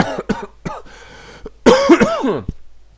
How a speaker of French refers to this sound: Je devrais canaliser beaucoup plus souvent, ça m'éviterait de tousser, de réveiller un vieil asthme qui sert à rien.